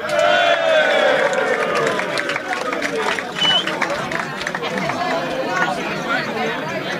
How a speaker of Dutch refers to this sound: Een hartelijk applaus, dames en heren